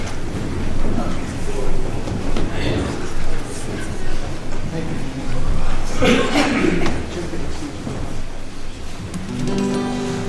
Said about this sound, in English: Did y'all hear that? There's a train coming.